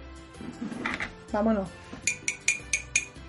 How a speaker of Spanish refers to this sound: De pronto, algo rompe la tensión. Se oye unos golpecitos sobre una copa con un tenedor.